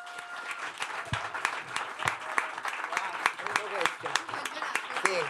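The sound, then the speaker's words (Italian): An auditorium audience applauds steadily at a comedy evening broadcast on Radio Popolare, dense overlapping claps forming a continuous patter, with some whoops and voices rising through it. “Quindi vi chiedo un grandissimo applauso per voi che lo potete vedere,”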